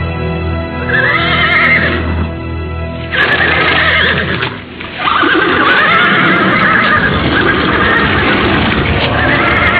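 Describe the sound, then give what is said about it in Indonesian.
Several horses whinny loudly and repeatedly in shrill, wavering neighs as their riders dismount, with faint hoof clatter and no talking. “Adipati Pecatanda memberikan isyarat agar Endang Kusuma Dewi turun dari kuda.”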